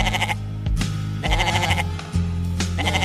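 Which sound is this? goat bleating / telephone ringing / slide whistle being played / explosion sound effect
goat bleating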